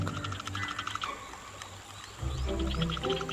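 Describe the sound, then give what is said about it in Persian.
Deep, throaty courtship croaking of frogs in a steady stream, growing louder and fuller about two-thirds of the way through, with faint high chirps and whistles scattered above it. No one speaks. “اینجا جذابیت با بلندی صدای قار و قور تعیین میشه.”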